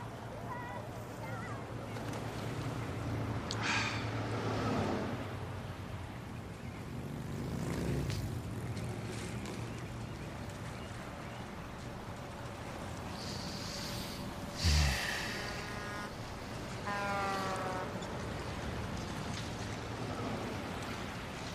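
A boat engine drones steadily at a low pitch for the whole stretch, mixed with wind buffeting and splashing water, with a few brief louder noises over it.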